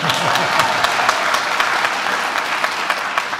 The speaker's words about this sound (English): By then, they had already begun building their Finn Hall, which is, by the way, being restored as we speak, on First Street South. Applause, everyone.